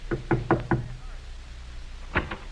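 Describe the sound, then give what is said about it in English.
Someone knocking at a front door at night: four quick, solid raps, a short pause, then two more knocks. The knocks are sharp and moderately loud against a quiet background. “Say, there's someone at the door.”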